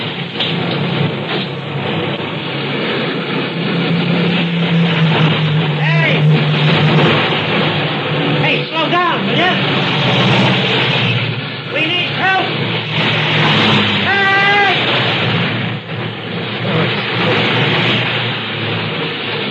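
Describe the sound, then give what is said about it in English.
Cars speed past on a four-lane highway in a loud, continuous roar of traffic that swells and fades as vehicles rush by, with muffled voices occasionally mixed into the noise. “Everybody's going too fast to stop.”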